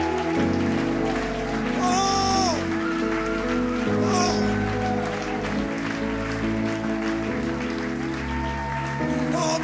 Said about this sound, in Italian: Forte l'applauso a Cristo.